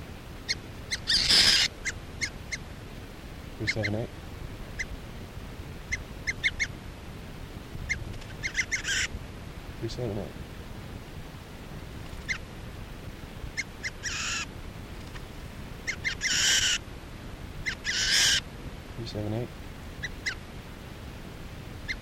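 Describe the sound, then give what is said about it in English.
A wild bird, number 378, being handled gives harsh, raspy squawks in loud bursts every few seconds, some bright and piercing, others lower and stuttering, over a steady background hiss with no talking. “This bird 378 being handled.”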